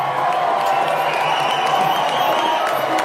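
A large crowd cheers and applauds continuously in celebration as one state after another falls to Donald Trump, a dense, steady roar of clapping and shouting with occasional whoops rising above it, loud throughout.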